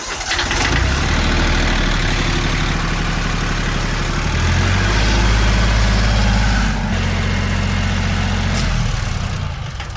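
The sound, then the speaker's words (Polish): A small garden tractor engine, towing a camping trailer, runs loudly and steadily, its low chugging rumble shifting pitch slightly midway as if revving, with no voices throughout. “Przyjechali niezwykłymi pojazdami, jak na tak długą drogę, bo dwoma ciągniczkami ogrodniczymi z przyczepami kempingowymi.”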